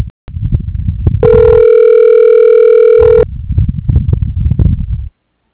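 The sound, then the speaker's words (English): A telephone call being routed to Sylvan Learning connects: one steady, buzzy electronic ring tone holds for about two seconds, with muffled low rumbling noise before and after it and no voices. “Your call is now being routed to Sylvan Learning.”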